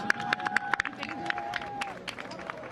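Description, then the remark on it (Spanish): Scattered applause from a crowd for the mayor at the switching on of Madrid's Christmas lights: sharp, uneven claps over a steady murmur of voices, with a thin sustained tone that fades partway through. “Bueno, sí, aplausos al alcalde.”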